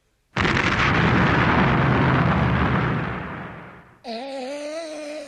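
An artillery battery fires a volley of all its guns together: a heavy, roaring blast bursts in and rumbles on for several seconds before fading. A wavering, tonal whine follows at the end.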